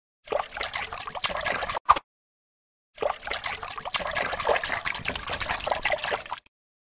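Water sloshes and splashes in two stretches as animals swim across a river, a short burst and then a longer steady churning, moderately loud with no talking.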